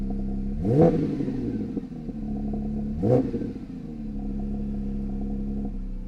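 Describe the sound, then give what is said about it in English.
A Porsche 992 GT3's 4-litre flat-six engine idles steadily, then is blipped twice, each quick rev rising sharply and falling back to a rumbling idle settling around 800 to 900 rpm, fairly loud with no talking. “I think that that flat six 4 litre”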